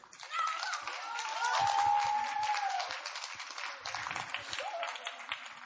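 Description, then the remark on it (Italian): A large crowd breaks into sustained applause, a dense rush of clapping that swells quickly and holds steady, with a few scattered voices and cheers rising faintly through it. “Quindi, se ora è applaudito, Dio ha guardato.”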